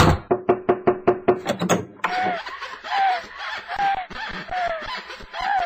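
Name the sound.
knocking on a door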